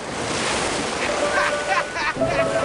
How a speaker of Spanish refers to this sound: Gran Zeta estaba en el agua y no lo sabía. Una ola lo revolcó hasta la playa.